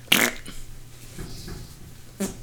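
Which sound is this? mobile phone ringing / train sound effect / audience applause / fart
fart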